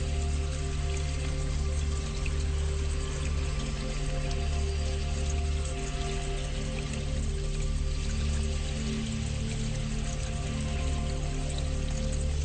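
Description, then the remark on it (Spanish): A waterfall in the mountains, forming a stream among rocks and large cedar, oak and pine trees, rushes in a steady, unbroken roar for the whole stretch, dense and fairly loud, with a low sustained hum beneath it and no voices. “Hay piedras, hay árboles, hay cedros, hay encinos, hay pinos grandes y enormes, y tú estás sentada, sentado encima de una piedra, disfrutando de ese paisaje, viendo la caída de agua en la montaña.”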